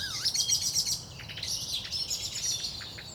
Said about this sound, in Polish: Bójka kosa z kwiczołem, niesamowicie zażarta.